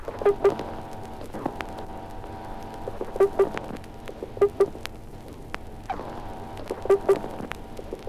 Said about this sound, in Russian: Звуки, издаваемые морским петухом при испуге.